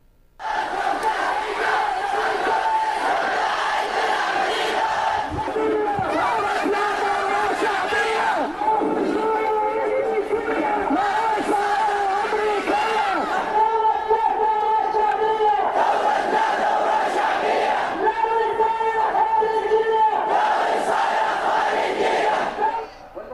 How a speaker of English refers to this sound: In Yemen, tens of thousands of anti-government demonstrators have poured onto the streets in the city of Sa'ada to protest against U.S. interference in their country.